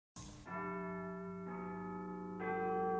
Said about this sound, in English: Then he heard a church bell ringing. It was midnight. I know that bell. It's St. Thomas's Church.